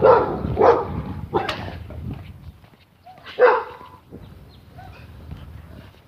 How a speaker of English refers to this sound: Dogs. There may be dogs on the other side of this fence. I'm not 100% certain.